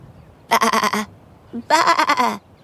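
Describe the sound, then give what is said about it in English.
A sheep bleats twice, loud, each wavering cry lasting about half a second with a short pause between them and nothing else in the background. “I'm a sheep.”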